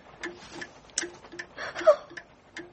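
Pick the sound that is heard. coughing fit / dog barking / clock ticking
clock ticking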